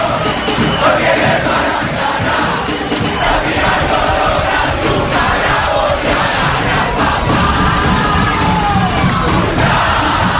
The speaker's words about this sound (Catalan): plorant desconsoladament com molts aficionats argentins aquí al Latin Palace, que mireu com sona.